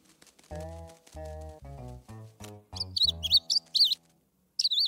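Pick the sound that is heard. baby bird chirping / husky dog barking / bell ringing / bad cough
baby bird chirping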